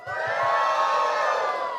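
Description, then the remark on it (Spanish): A church audience shouts and cheers joyfully all at once for Jesus during worship, a loud, sustained roar of many voices with whoops rising above it, steady for its whole short length. “¿Cuánto dan un grito de júbilo para Jesús?”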